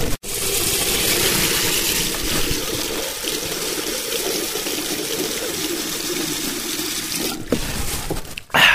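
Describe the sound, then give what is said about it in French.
A washbasin tap in a toilet room runs steadily with a full hiss of pouring water for several seconds as someone drinks from it, with a brief break near the end before the flow resumes. “Et donc, comme tout bon pauvre, je vais boire l'eau du robinet des toilettes. Enfin, pas du robinet des toilettes, du robinet du lavabo qui se trouve dans les toilettes.”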